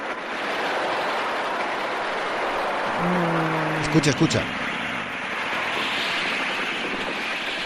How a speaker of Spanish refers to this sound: Y el viento es que aletean las alas, son muchos